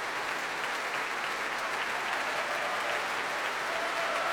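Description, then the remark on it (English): Sustained applause from a large crowd at a Mendelssohn concert, with Nikolai Znaider applauding the audience; a dense steady wash of clapping at an even, moderate loudness with no voices standing out. “Nikolai Znaider applauding the audience now and giving them a cheerful thumbs up.”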